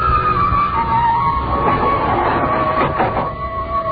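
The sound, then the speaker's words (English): An elevator car rises with a steady mechanical rumble and a sustained whining hum, a low droning motor sound with faint clanks near the end and no voices. “Kept watching him, peering at me furtively as the elevator moved upward with agonizing slowness.”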